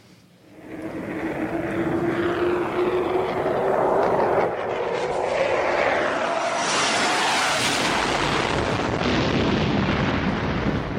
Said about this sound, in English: A few minutes later, Justice and So-So heard a loud explosion and a ruckus down the hall.